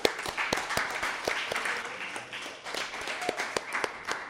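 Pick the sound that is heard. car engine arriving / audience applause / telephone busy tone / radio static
audience applause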